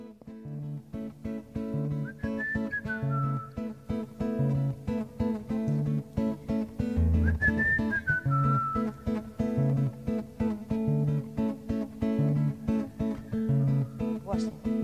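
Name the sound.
whistled melody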